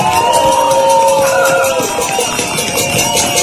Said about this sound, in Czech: A teď si zatleskejte.